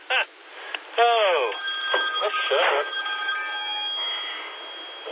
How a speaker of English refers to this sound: And I got a call coming in. It looks like a telemarketer, so they can just keep on a ringing.